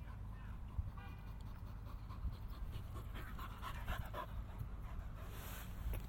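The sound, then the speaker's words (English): A dog pants steadily and rapidly while playing with a ball, with quick rhythmic breaths that continue throughout against a faint low background rumble. “Dog's getting better at getting that ball.”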